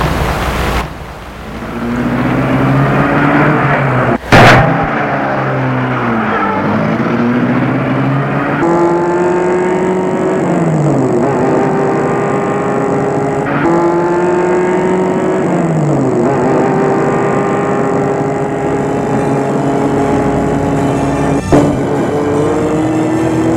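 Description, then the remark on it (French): A sharp knock near the start as a man gets into his car and starts it, then the car engine rumbles and revs, its pitch climbing and dropping through several gear changes as it pulls away and drives on steadily through Paris. “Or, il entre dans sa voiture.”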